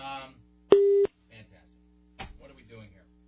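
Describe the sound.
A single loud, steady electronic phone beep lasting about a third of a second, with faint muffled voices briefly before and after it.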